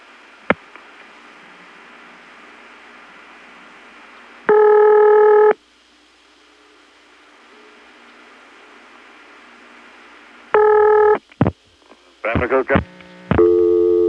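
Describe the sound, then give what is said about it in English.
A telephone ringback tone from a normal call to a ringing number in Bayboro, an office with St. Thomas type independent ring, sounds twice as long, buzzy rings with several seconds of faint line hiss between them, then sharp clicks and a short burst of changing tones. “Here's what it sounds like when you call a ringing number in Bayboro the normal way.”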